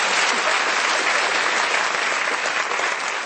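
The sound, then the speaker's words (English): An audience claps steadily, dense overlapping hand claps forming a loud, sustained wash of applause that holds for several seconds without any voices standing out. “Let's give her a round of applause for her message.”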